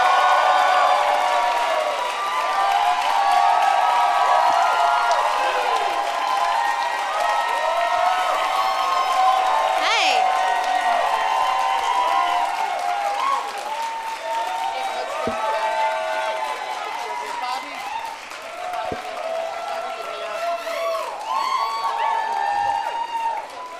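An audience bursts into loud, sustained applause and cheering as four guests, Ron Bennington, Amy Miller, Gary Goldman and Bobby Moynihan, are welcomed out, with whoops and shouts rising over steady clapping that keeps up for the whole stretch without fading.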